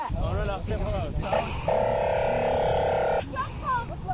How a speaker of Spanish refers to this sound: Ellos finalmente no tuvieron suerte, ya escuchas el sonido de las sirenas de la policía.